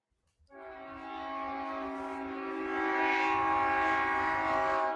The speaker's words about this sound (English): Oh, train.